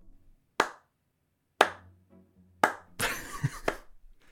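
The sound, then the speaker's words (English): Sparse, underwhelming applause: three slow, sharp claps spaced about a second apart, then a brief flurry of scattered clapping that quickly fades. No voices. “If my calculations are correct, your explanation will probably end with rapturous applause from everyone in attendance, so don't be startled by the noise.”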